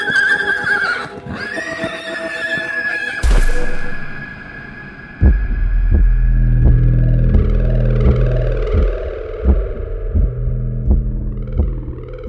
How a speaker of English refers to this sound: That's when my horse neighs and bucks me off, and I fall into the sand.